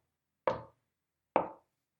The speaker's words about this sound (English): Oh, somebody's knocking at the door.